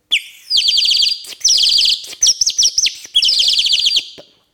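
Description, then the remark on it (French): A ceramic water whistle from Soufflenheim in Alsace, filled with water, warbles as air is blown in and vibrates the water surface: rapid, trilling bursts, four bubbling phrases of high, chirpy notes separated by brief pauses, sounding much like a songbird. No one speaks. “Et puis, par la flûte, on met l'air. Et puis, l'air fait vibrer la surface d'eau.”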